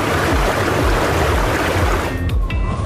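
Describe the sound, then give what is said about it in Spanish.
Steady, dense rushing of flowing water fills the whole stretch, loud, with a low churning rumble underneath and no voices. “Así es, iniciamos con el elemento del agua.”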